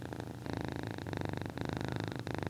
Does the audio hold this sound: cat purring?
yes